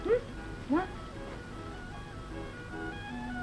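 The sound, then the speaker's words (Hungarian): Puppies give two brief, high rising whimpering yaps close together near the start, then fall quiet over a low steady background hum. “Na ne, inkább játszok valami mást, hagyjál meg ezt a kis kutyákat.”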